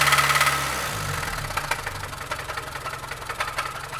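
A car engine runs with a deep, steady knocking from low in the block, a rapid repetitive thud under the idle that stays fairly loud throughout; it is a bottom-end rod or main bearing knock.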